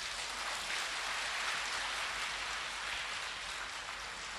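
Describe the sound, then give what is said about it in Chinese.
An audience claps steadily for several seconds, a dense, even wash of many hands with no individual claps standing out and no voices over it, applauding Lu Junhong after his Buddhist talk. “让我们再次以热烈的掌声感恩卢军宏台长为我们带来的精彩开示。”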